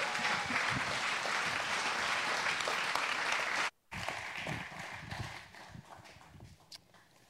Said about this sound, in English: So let's give a big round of applause